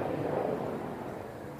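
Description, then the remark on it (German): A helicopter passes overhead, a steady, loud low rumble with a broad roar that holds for the whole moment and eases slightly toward the end, with no voices. “Jetzt kommt gerade ein Helikopter.”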